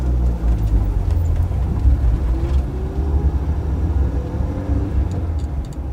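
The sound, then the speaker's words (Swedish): A car does a wheelspin start and pulls out of a parking lot, the engine roaring with a loud, steady low rumble as it keeps driving, with no voices. “Bilen rivstartar och de kör ut från parkeringen.”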